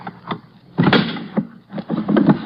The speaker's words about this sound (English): Now, why would you keep this drawer locked, Deemsy, old boy? Let's just force it open.